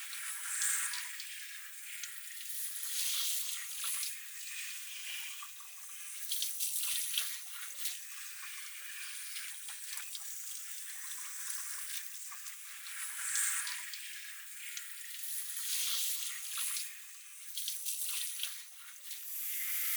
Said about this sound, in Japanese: じゃ、しっかりと泡流すから、体リラックスしたまんまでいて。